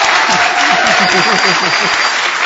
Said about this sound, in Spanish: Los presentes se miraron con una mezcla de inquietud y deseo. Y más tarde prorrumpieron en un desenfrenado aplauso.